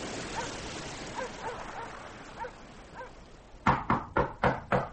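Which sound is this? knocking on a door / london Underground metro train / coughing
knocking on a door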